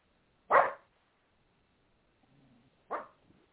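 A dog barks twice, with a short sharp bark near the start and another about two seconds later, separated by a faint low whine, close and fairly loud with no talking.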